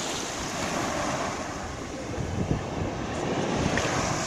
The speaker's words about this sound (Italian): E come sempre iniziamo con il suono delle onde del mare, come sapete a me caro, anche se siamo in città